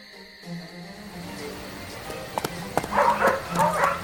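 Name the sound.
hunting dogs barking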